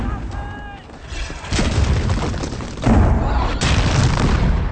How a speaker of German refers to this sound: Harr! Feuer erwidern! Die Geschütze kenne ich doch.